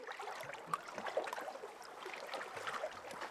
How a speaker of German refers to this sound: Gemächlich plätschert das Wasser der Donau im Flussbett vor sich hin.